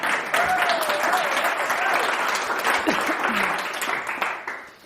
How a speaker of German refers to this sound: Yes! Applaus für …!